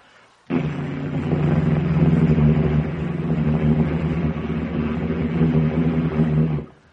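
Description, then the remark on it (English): Loud, steady airplane engines drone continuously in flight, a deep rumbling hum with throbbing low tones that starts abruptly and holds at full strength for several seconds, with no voices. “Beautiful sound of the engines.”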